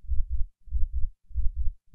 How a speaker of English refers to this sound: Just as suddenly as it began, it stopped, leaving us with only the sound of its heavy breathing and the pounding of our own hearts.